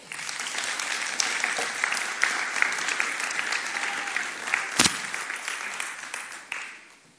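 A crowd of people claps steadily for several seconds, a dense crackle of applause that swells slightly and then tapers off toward the end.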